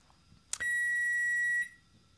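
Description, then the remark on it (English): An oven timer sounds a single long, steady electronic beep lasting about a second, loud, preceded by a faint click, with no one talking, signalling that the oven has preheated to 325. “There's our timer, letting us know that the oven is preheated to 325.”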